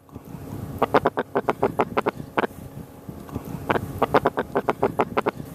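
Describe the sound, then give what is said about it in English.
A sea robin croaks in two fast bursts of loud, rasping pulses, each run of about a dozen evenly spaced grunts with a short pause between, sounding like a frog-like bark or duck quack. No one speaks. “if you lift a sea robin out of the water when you catch it, it makes a lot of loud croaks in a row.”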